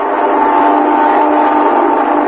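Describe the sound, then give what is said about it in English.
An airplane, the midnight plane flying over a building, roars overhead: a loud, steady engine drone with a dense midrange rumble that holds constant for a couple of seconds, with no voices. “That's the midnight plane now. I hear it every night that flies over the building where I work.”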